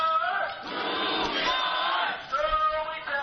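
A crowd of at least 70 or 80 SEIU 5521 strikers at an unfair labor practice strike chants together in loud, sustained voices, led by a tinny, band-limited bullhorn voice, with a brief dip before the chanting surges again.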